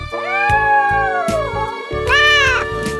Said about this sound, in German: die große schwarze Katze, den Fall lösen?